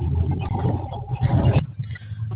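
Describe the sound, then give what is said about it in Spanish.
A car engine hums steadily in traffic on the way into the city, a continuous low rumble with mild clatter that thins out and drops in intensity partway through. “Ah, ya le iba a preguntar a qué se detuvo, ya lo vi en movimiento. Hay tráfico para entrar al city.”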